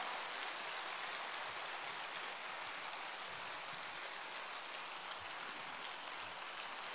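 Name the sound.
thunderous applause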